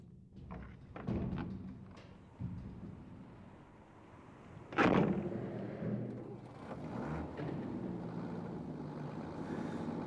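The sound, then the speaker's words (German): A food delivery truck rumbles through an opening airlock gate: a few dull thuds, then a loud heavy clank midway, followed by a steady low engine drone. “Sobald der Wagen hält und der Lieferant die ersten Kisten rausgeschleppt hat, verduften wir.”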